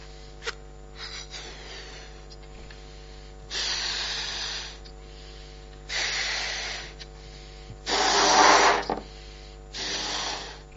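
A balloon being blown up in several long, breathy puffs, with rushing bursts of escaping air between them; the hissy blasts are fairly loud, with no talking.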